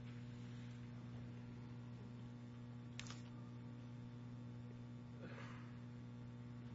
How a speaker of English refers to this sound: Well, wait, I hear pages turning.